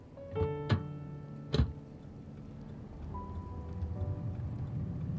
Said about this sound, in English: November's seasonal raindrops cut through traffic jams.